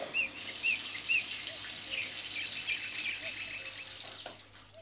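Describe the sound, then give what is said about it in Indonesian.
Water pours steadily onto plant soil as a plant is watered, soaking straight into the soil, in a soft, continuous splashing hiss lasting several seconds, while small birds chirp repeatedly in the background. “Coba kamu siram dulu tanaman kamu.”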